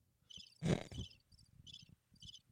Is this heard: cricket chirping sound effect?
yes